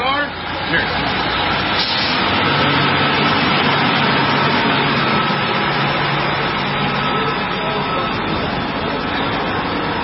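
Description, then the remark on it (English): A prison bus with bars on its windows pulls up to a facility, its large engine rumbling steadily in a low idling drone beneath dense, constant outdoor noise and indistinct voices, holding an even loudness throughout. “Another massive busload, prison busload, with the bars on the windows, pulls up to the facility.”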